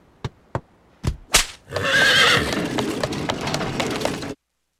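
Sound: horse-drawn carriage pulling up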